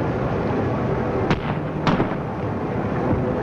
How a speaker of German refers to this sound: 91 Schuss Salut